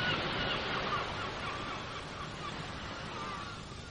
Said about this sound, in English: Oh, those awful birds. They will roost on the chimney pots. Well, that's why they sound so loud. It echoes down to the empty grate.